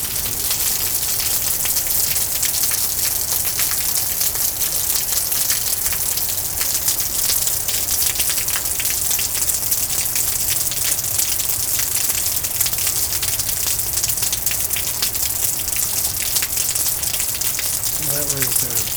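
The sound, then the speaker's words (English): Heavy rain pours steadily, big drops pattering densely on a surface in a constant wash of noise, with a brief bird call near the end. “It's not stuck there, but it's refusing to leave because the bird's so small and the raindrops are so large.”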